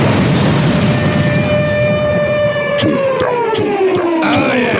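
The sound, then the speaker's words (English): A loud rap track with heavy, booming bass and a long siren-like synth tone sliding downward, punctuated by sharp drum hits toward the end. “That's a good song, right? You liked it, right? You were banging your head, going crazy and wild in the club.”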